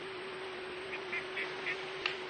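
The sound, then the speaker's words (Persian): A handful of short duck quacks from a pond full of ducks sound in a loose series, modest in volume, over a steady wash of outdoor background noise with a low hum. “این طرف دست چپ یه برکه آب پر از مرغابی.”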